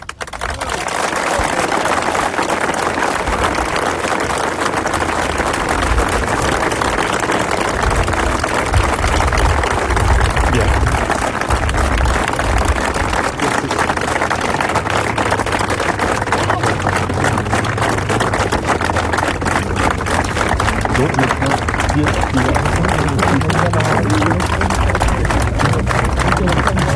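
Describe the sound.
A crowd claps in a long, steady burst of applause after a reading of a 2006 text invoking the Resistance, ending 'créer, c'est résister'. The applause stays loud and dense for nearly half a minute, with murmuring voices mixed into the clapping.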